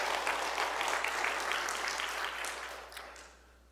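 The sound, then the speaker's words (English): An audience applauds two Bible teachers steadily, dense clapping at moderate volume before fading out toward the end, with no talking over it. “Well, yeah, let's give them a round of applause, too.”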